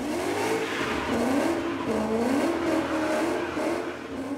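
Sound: car driving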